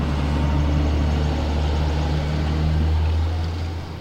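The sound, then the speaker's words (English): A large bus rumbles past, its deep, steady engine drone filling the moment before easing slightly at the end. No one speaks over it. “We'll pause so that the bus go by.”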